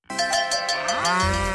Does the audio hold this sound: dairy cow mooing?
yes